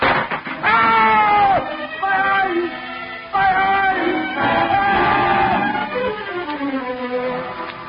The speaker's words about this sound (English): Claudin stumbled down the steps, screaming in agony, the acid burning into his face